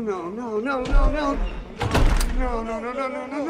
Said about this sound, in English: They shut the front door and lock it.